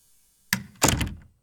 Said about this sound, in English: Close the door.